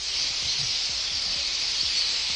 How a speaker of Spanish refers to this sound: Son estorninos en la Avenida de Portugal, en el centro de Salamanca. El ayuntamiento ya trabaja para reducir su población.